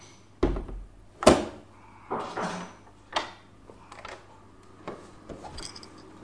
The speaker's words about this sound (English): Who's behind the door? Knock, knock, come in.